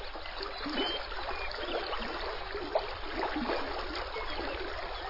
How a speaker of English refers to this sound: Through these grasslands flows the Frenchman River, twisting and looping again and again, sinuously, mile after mile, the epitome of a meandering river. The river's flow creates its own music.